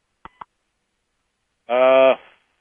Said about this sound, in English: Heard a beep? Yeah, I think I did too. Is someone else on the line?